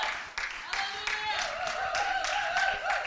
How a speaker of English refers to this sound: A round of applause for our panelists.